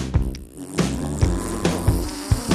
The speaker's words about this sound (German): Ein Monster klingt so. Ein Pups klingt so. Dann klingt ein Monster-Pups wohl so.